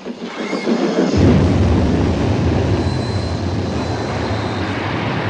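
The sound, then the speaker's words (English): A Japanese locomotive approaches a wooden bridge, rumbling steadily, its heavy low roar rising within the first second and holding loud with a faint metallic whine above. No clear explosion stands out, and no one speaks. “A Japanese locomotive approaches the wooden bridge. The character's eyes roll back and he falls dead, landing on the plunger. The center of the bridge explodes.”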